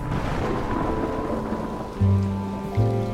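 rain falling

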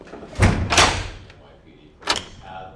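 door shutting

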